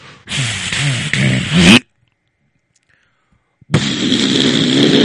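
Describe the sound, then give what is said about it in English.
A voice imitates a loud, old dishwasher running, making a rough, whooshing, buzzy drone that cuts off abruptly into silence, then starts up again just as loud. “And it is so loud. Hello? That's sort of like my dishwasher.”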